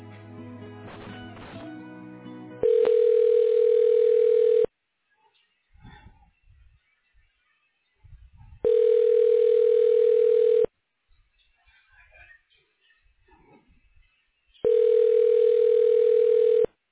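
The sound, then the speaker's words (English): A telephone ringback tone sounds three times while a call is being transferred to the radiology department downtown, each steady two-second ring followed by about four seconds of quiet line noise, clear and even through a phone line. “I'm going to go ahead and transfer you over to the radiology department downtown, and they should be able to help you from there.”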